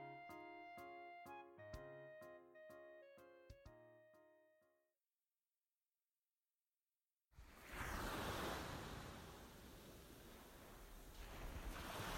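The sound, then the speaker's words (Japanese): A soft tinkling melody plays and fades into a brief silence, then loud waves wash in at the seaside with cold, blustery wind rushing steadily, with no voices. “もう暖かくなってきたとはいえ、海辺は風が冷たいから。”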